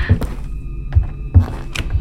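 Several dull, low thuds of doors and heavy footsteps land at an uneven pace, with faint sharper taps between them over a quiet steady hum, after the power has gone out. No one speaks.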